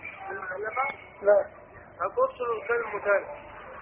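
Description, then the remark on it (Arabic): Thin, band-limited broadcast sound from a caller's television carries over a phone line during a call to a religious program, with muffled voices in uneven bursts at moderate loudness, tinny. “وطي التلفزيون واسمعنا من التليفون”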